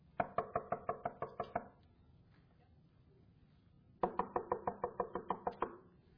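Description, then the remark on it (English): Two quick bursts of firm knocking on wood, about eight sharp raps each, separated by a couple of seconds of quiet. The knocks sound fairly loud, with no talking. “We see the glorious promise because He is knocking.”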